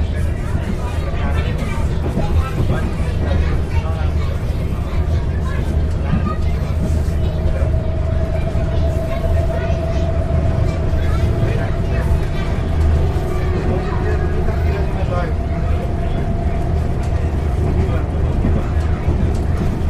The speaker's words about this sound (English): Just go for a couple of stations just to give you the feel of being on an Adelaide train.